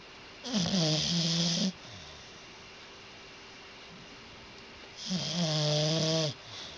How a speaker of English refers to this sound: It's our dog, Ellie, snoring on the floor.